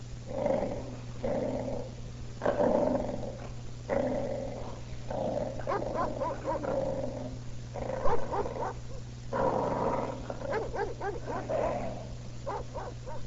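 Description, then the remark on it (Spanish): Small dogs following their owner along a street growl and yap in a steady run of short bursts, the snarling vocalizations overlapping and continuing for several seconds over a faint constant hum. “Lo siguen sus perritos, todavía adormilados, pero conscientes de que son su séquito.”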